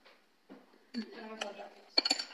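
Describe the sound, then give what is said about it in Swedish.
A glass of water clinks sharply a couple of times near the end, giving a bright, brief ring, after some soft shuffling and a stretch of low talk. “Jag har ett glas vatten.”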